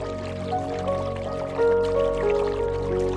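A babbling brook about 1 to 2 metres wide splashes and rushes steadily and continuously on a sunny day, with soft sustained tones humming underneath the flowing water.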